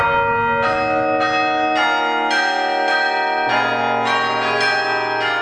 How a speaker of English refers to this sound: and then I saw that the tracking wires leading from the keys of the keyboard to the clappers actually had pulled out of the keyboard. And so, yes, it was possible the clappers must have been striking the bells. Creating an earthquake song.